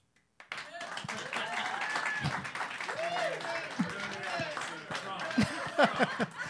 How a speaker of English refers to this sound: I just never heard a title said with so low energy get a round of applause.